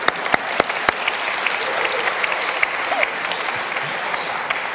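A round of applause from a group, steady dense clapping with a few sharp louder claps early on, sustained for several seconds at an even level with no talking.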